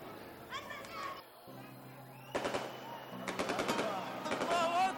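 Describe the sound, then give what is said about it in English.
Rapid crackling bursts of firecrackers rattle in quick, uneven volleys, growing louder and denser, while voices shout and chant takbir in the background throughout, heard over a school after prayers. “After finishing the prayers, sounds of firecrackers and takbir were heard over the school.”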